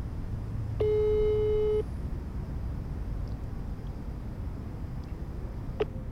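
A single one-second telephone ringback tone, a steady mid-pitched beep, sounds once over a low rumbling background hum, followed by quiet with a faint click near the end, as a caller at the old Kakola central prison phones the cultural director.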